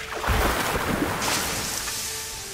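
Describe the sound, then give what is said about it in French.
A loud, surging rush of crashing water, like a wave breaking, from a water magic spell cast to put out flames, roaring steadily for a couple of seconds before easing into a hissing wash. No voices. “Je vais éteindre ces flammes avec ma magie de l'eau. Que les vagues se déchaînent.”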